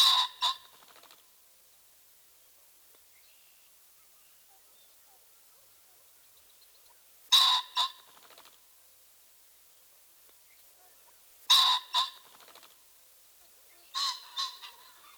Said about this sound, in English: Our final bird in this group is the ringneck pheasant. His typical vocalization is a loud, two-noted squawk.